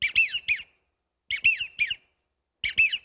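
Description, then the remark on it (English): A baldpate, or widgeon, duck's whistling call repeats in three bursts, each a quick cluster of high, wheezy whistled notes with a rising-falling lilt, separated by short silences. Clear and fairly loud, with no talking. “And this is a ball pate or a widgeon.”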